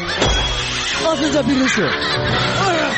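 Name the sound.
bird squawking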